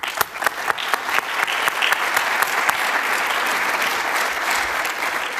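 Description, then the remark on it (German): A conference audience breaks into an extra round of applause for the event's volunteer helpers, scattered sharp claps at first quickly building into a steady, dense wash of clapping that holds at a strong, even level with no voices. “Ich würde auch gerne ein paar von den Helfern, die super waren dieses Jahr bei dieser Konferenz, und die kriegen jetzt gleich nochmal einen extra Applaus dafür.”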